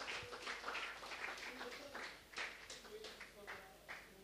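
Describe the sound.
An audience in a church claps together in a steady, dense wash of applause that stays fairly even for several seconds, with murmuring voices mixed into the crowd noise.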